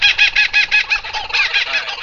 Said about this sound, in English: Sounds good, sounds good. All right, play the birds.